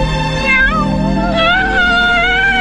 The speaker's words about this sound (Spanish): ¿Qué pasa, gatito? Es el gato de Charkis.